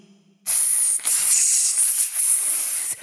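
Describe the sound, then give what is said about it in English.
A snake hisses loudly in one long, sharp, airy breath lasting over two seconds, dipping briefly twice before cutting off abruptly, with no voices. “I think that's a snake.”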